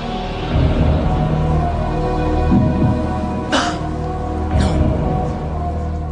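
A sharp, fake-sounding cough disguising a blurted "no" bursts out midway while a quiz answer is being weighed, followed by a softer second cough, over a steady low background hum.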